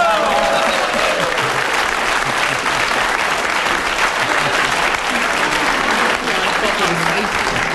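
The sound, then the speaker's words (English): A sustained round of audience applause for a man who kept going with his talk, dense and steady clapping at a constant loud level for several seconds, with faint crowd murmur mixed in. “He certainly deserved his round of applause for keeping going, but I've never heard such a load of old what's its name in my life.”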